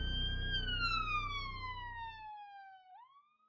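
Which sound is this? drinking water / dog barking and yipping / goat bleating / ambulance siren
ambulance siren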